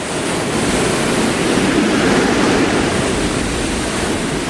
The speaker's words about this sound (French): Et le premier son, c'est le bruit d'une vague, une vague bleue. Alors parfois la vague est relativement tranquille, parfois la mer est un peu plus agitée. Et parfois, elle se fait tempétueuse.